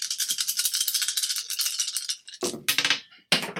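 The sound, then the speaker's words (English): Dice for an attack roll in a game rattle steadily in a shaking hand or cup for a couple of seconds, then clatter loudly onto a hard surface in two quick, sharp bursts. No one speaks. “Hot dice!”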